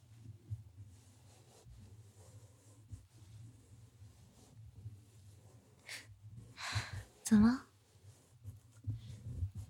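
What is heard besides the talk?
heavy panting breaths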